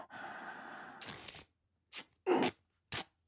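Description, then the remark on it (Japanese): Packing tape used for work moving parcels screeches off its roll in one long, drawn-out pull, then three short, sharp rips follow, as it is used to bind someone's wrists. The sound is fairly loud, with no voices. “じゃあ、このガムテープでちょっとあなたの手首縛らせてもらいますね。”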